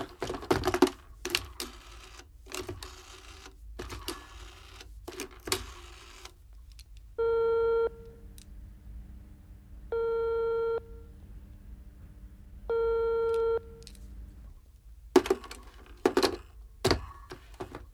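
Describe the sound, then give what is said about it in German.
Clicking and clattering of buttons, then a telephone ringback tone sounds three times, each steady buzzing tone about a second long with pauses between, before more handset clatter. No one answers. “Geht keiner ran.”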